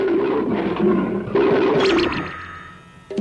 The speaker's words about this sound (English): There's a tiger, a big one, with stripes and it growls.